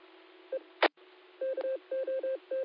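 A telephone at the Cuca mountain hut sounds with short electronic beeps, one early and then a quick rhythmic run of five, over a thin phone-line hiss broken by a brief burst of static. Nobody speaks.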